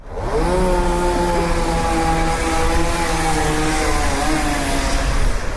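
A chainsaw drones steadily, its engine holding a loud, buzzing pitch that wavers slightly as park workers cut branches from plane trees along Kraljice Marije street in central Belgrade, near the Faculty of Mechanical Engineering; a broad noisy hiss underneath and no voices.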